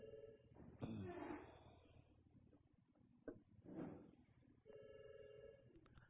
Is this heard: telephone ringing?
yes